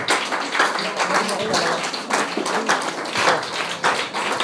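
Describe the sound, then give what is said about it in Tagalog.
A standing church audience breaks into loud, sustained applause for God, a dense wash of many hands clapping together with no clear individual beats, holding steady for several seconds. “Minsan pabigyan natin ng malakas na palakpak ang ating Diyos na buhay.”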